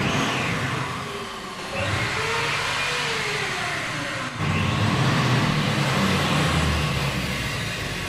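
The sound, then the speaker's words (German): Grinding and drilling machines, angle cutters and jigsaws on long steel shelves in Delphine Reist's installation at the Tanguy Museum in Basel run loudly together in a dense, continuous mechanical roar, with whining tones sliding up and down in pitch and an abrupt shift in the noise partway through. No one speaks. “Arglos steht man vor den langen Stahlregalen von Delphine Reist und betrachtet die dort platzierten Schleif- und Bohrmaschinen, die Winkelfräser und Stichsägen”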